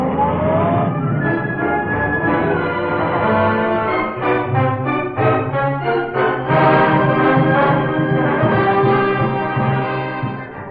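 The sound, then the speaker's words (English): A car engine hums and revs steadily as the vehicle pulls away, its tone rising and wavering for about ten seconds at a constant, fairly loud level, with no voices. “And while I'm there, take this car back to the garage and get the Black Beauty.”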